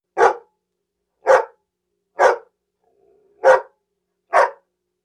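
A dog, Echo, barks five times in a steady, evenly spaced rhythm, each bark short and loud, with a faint whine between the third and fourth barks.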